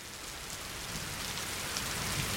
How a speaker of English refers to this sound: Then these atmospheric rivers, waterfalls straight out of the sky is what they are. I talk to my friends in California, they say, this isn't rain.